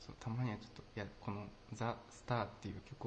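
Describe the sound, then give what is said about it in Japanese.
A single voice speaks in steady phrases, drenched in a deliberately strong reverb effect that smears each syllable into an echoing wash with no clean silence between words. “今日ちょっと強めにがっつりリバーブかけちゃってますけど。”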